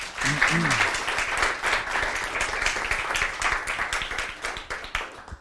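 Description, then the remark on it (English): Steady audience applause welcoming a speaker before his talk on the idea of Mexican food: many hands clapping in a dense, crackling wash that holds for several seconds, then begins to thin and fade out. A brief voice or cheer rises early on. “So let's give him a big applause.”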